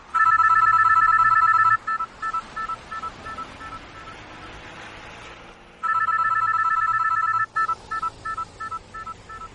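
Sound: cell phone ringing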